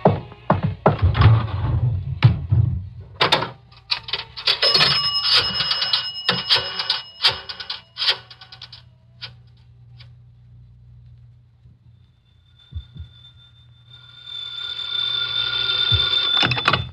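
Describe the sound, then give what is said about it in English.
A few heavy thumps and clatter, then a telephone bell rings in a loud, buzzy burst lasting several seconds. After a quiet pause, a fainter ringing tone returns near the end. “I got to make a phone call. There's a booth.”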